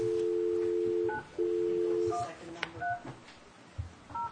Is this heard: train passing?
no